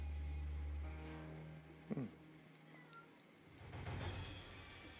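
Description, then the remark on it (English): A cat gives a single short meow, rising then falling in pitch, over a low steady hum, followed later by a soft rushing noise like a passing car. “Do you want me to let the cat out?”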